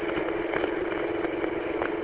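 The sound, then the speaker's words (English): A pickup truck with a mild 2.5-inch lift and old square-body steering is driven in wind and rain, its engine running in a steady, unbroken drone with a strong low-mid hum, holding an even loudness throughout, with faint irregular ticks over it and no voices. “Well, yeah, this truck's a handful to run in the wind and the rain here.”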